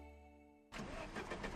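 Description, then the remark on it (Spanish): A broken-down automatic car's engine straining to start: a steady whirring drone from the starter, then a sudden loud rush of rough, noisy engine sound that continues to the end. No voices. “Que se me ha averiado el coche.”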